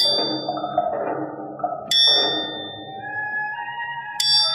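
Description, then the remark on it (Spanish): The old clock in the central square of the Chinese quarter strikes twice as it tolls twelve, each ringing blow leaving a long, resonant hum that fades slowly. The tolling is loud, with no voices. “El viejo reloj de la plaza central del barrio chino deja escapar 12 campanadas y Tagasi Chani se estremece.”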